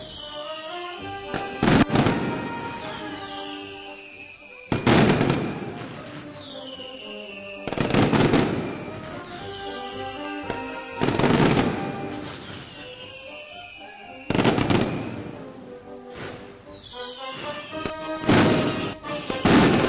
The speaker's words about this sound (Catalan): Així s'acaba la tronada, la primera tronada de les festes. La tronada que ha llançat la pirotècnia saragossana en aquest divendres 16 de setembre.